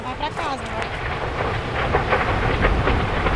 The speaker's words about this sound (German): Und das Feuer kommt. Es ist kein Unterholz, was da brennt. Es ist ein Stück dichter, noch stehender Regenwald. Die Flammen donnern, brausen und schreien, schleudern Bäume meterhoch in die Luft.